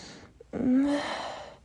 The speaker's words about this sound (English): You can see my mouth opening up. Can you just imagine my little moans and gasp like the ones you're hearing now?